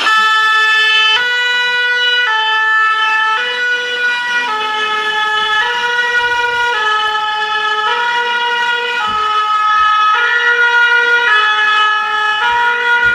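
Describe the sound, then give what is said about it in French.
A Lego toy fire engine siren blares a loud, electronic two-tone wail, flipping between high and low pitches about once a second for the whole stretch, with no voices. “Pourquoi tu as ramené une sirène de pompiers Lego?”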